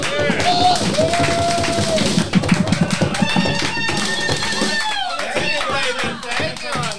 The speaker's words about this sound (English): So the guys are going to take us out with a song. Everybody, let's do one big round of applause for the ….